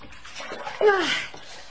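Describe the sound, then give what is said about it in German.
Cold water sloshing and splashing from a bowl, used to wake someone up near midnight, lasting under two seconds, with a brief rising vocal exclamation or gasp in the middle of the splash. “Hier, eine Schüssel mit kaltem Wasser. Das wird dich munter machen.”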